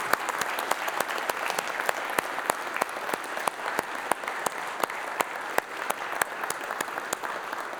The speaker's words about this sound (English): Before we close our service, I think a round of applause is appropriate for all our musicians.